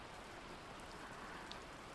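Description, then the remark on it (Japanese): Steady rain patters down in a soft, continuous hiss, fairly quiet and even throughout, with a few slightly sharper drops now and then and no voices. “うん、雨好きだけど、”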